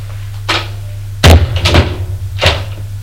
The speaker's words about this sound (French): Elle a fermé la porte.